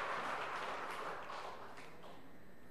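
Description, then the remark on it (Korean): An audience applauding at a Dream Church (Presbyterian Church of Korea) service after six people are proclaimed catechumens, a steady wash of many hands clapping together that gradually softens toward the end, with no voices over it. “박수해 주시기 바랍니다.”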